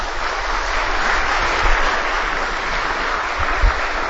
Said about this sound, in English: a round of applause for our panelists, please.